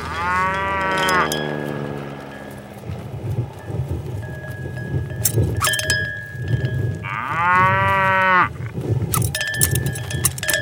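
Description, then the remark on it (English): Two long, loud cow moos, one at the start and another near the end, with a low rumbling background and scattered clanks between them. No one speaks. “And now a cow who goes skydiving for the very first time and thinks his parachute isn't gonna open”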